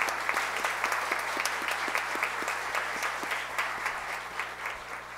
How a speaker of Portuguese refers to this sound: quero também aproveitar a oportunidade aqui para cumprimentar de forma mais efusiva meu amigo, autor dessa propositura, e a qual eu peço uma calorosa salva de palmas,